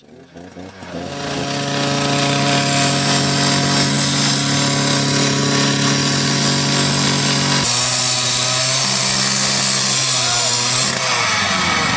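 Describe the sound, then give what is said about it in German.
A loud angle grinder used by police spins up and cuts steadily through metal, its high whine and harsh grinding noise continuous, with a brief drop in pitch as it bites into the metal partway through. “Dann kann es zum Beispiel passieren, wie im letzten April, dass die Polizei überhaupt keine Schutzvorkehrung trifft, wenn sie die Flex einsetzt.”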